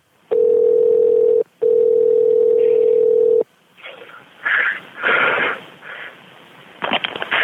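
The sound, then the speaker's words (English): A steady, loud telephone dial tone sounds for about three seconds with a brief break before an emergency call to a fire department connects, then cuts off into rustling line noise and muffled, crackly phone-line sounds. “On the phone.”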